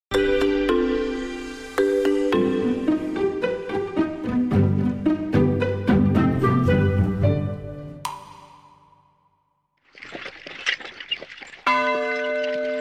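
signal or alarm, church bell ringing

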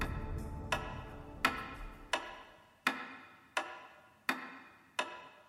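household object, pendulum wall clock ticking

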